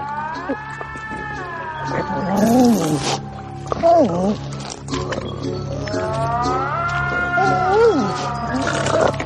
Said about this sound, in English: Yeah, they do the weird bubble and they do again that weird... that weird cat moan sound.